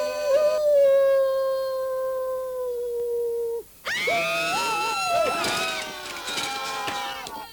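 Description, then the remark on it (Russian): A wolf howls in one long, steady drawn-out note that sags at the end. After a brief pause, a rougher, wavering howl rises and falls, loud. “Совсем волку стал не втерпёшь. А теперь точно спою. Ну и запел. Завыл вернее.”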